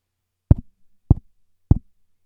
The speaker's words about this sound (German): Es klopft an. Es klopft an deiner Tür.